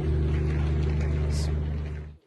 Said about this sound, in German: Das ist ein Brummen, was uns hier die ganze Zeit irritiert. Ich weiß nicht, ob man das hört. Da steht ein Generator und hunderte von Sky-Zuschauern rufen an und fragen, was soll das brummen?